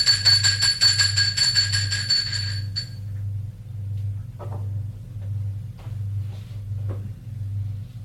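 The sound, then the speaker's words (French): A man rings the doorbell at a door in an apartment building; it rings loudly and continuously for nearly three seconds with a rapid, buzzing trill, then cuts off, leaving a low, steady pulsing drone and a few faint clicks. “Sonne à la porte.”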